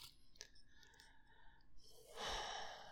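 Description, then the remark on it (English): A soft exhalation swells into a broad breathy rush near the end, preceded by quieter airy sounds and faint background hiss, with no talking; the breathing of someone stroking another person's hair. “Listen to the sound of my breathing while I stroke your hair.”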